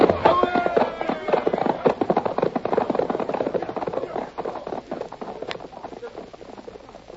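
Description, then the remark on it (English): Horse hooves gallop in a fast, steady drumming that stays loud, then eases off slightly toward the end, with a voice briefly heard near the start. “I ain't going to kill these horses.”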